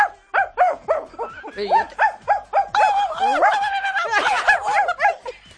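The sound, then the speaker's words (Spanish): A person imitates a barking dog with a rapid run of about a dozen loud yelping barks, breaking midway into a longer howling, snarling stretch before the barks resume. “Pero ahora le va a perseguir un perro.”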